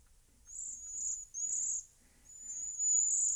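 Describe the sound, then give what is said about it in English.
High, thin, hissing calls of cedar waxwings repeat in a loose series, each a short buzzy whistle, with faint low chirps and quiet background underneath. “Many people are familiar with the high, thin calls of cedar waxwings.”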